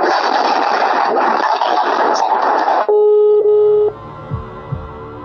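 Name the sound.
phone busy tone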